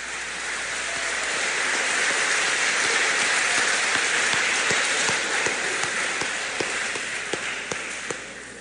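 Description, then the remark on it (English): A crowd gives a round of applause for second-year award winners, dense and steady clapping that holds for several seconds with a few sharper individual claps standing out before it eases slightly at the end. No one speaks. “Let's please give a round of applause for your second year award winners.”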